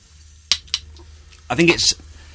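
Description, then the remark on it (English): A metal spoon clinks sharply twice against an opened food tin, followed by a louder burst of scraping and rattling, with a brief voice sounding over it. “They're all Rimpel based, so we don't need a tin, obviously. Oh. Right, here's the spoon.”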